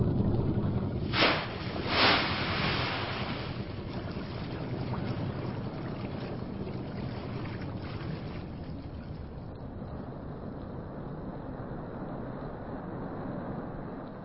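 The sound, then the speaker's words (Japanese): A boat on open water: a steady low engine rumble and rushing wash, with two louder splashing surges near the start, then a constant drone. No one speaks. “船は停止いたしました。”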